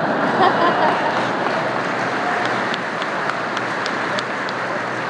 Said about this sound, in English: I suspect that's rain pounding away. So here's what I'm going to do. I'm going to talk until the rain stops.